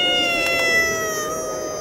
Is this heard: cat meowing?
yes